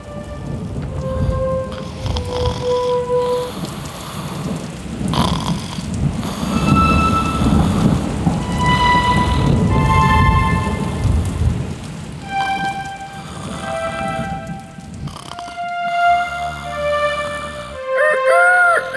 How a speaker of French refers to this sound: L'orage derrière la fenêtre, la lune.